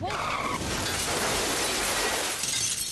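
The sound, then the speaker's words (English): A loud car crash in a TV commercial's crash scene erupts with a sharp squeal, then a sustained roar of shattering glass and crunching debris that rattles on for a couple of seconds before thinning out. No voices. “The execution of this crash scene is remarkable.”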